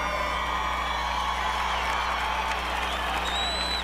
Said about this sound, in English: We have to give a nice round of applause to Henry Cisneros, who was very instrumental in building this place.